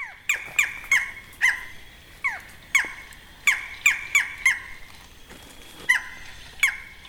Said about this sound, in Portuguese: A conversa flui entre a imagem de som eletrônica do falcão caburé e o falcão caburé, presente na mata. A um ponto não dá para saber quem é quem.